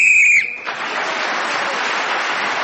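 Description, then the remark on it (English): A single short, shrill whistle blast, blown to end a round of a panel game, sounds loudly for under half a second, then gives way to steady applause from an audience that continues to the end. “Paul Merton was then speaking as the whistle went, gained that extra point for doing so, and he's equal with Derek Nimmo in second place now”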